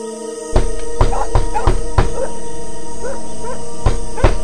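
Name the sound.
knocking on a door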